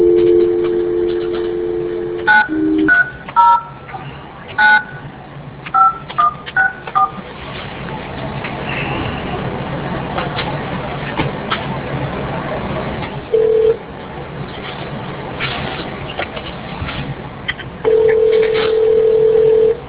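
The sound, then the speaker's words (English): A rapid string of telephone keypad tones beeps out a number, followed after a hiss-filled pause by two steady bursts of ringing tone on the line. “And well, there is a phone number here. Let's just try it.”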